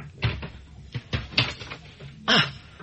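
A door being opened, with a series of wooden clunks and rattles over a few seconds, ending in a louder scraping knock, with no one talking.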